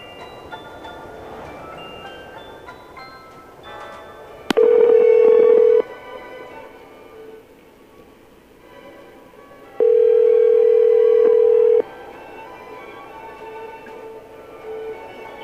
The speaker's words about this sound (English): We're going to try to get you on the phone right now, so if your phone starts ringing, make sure you pick up.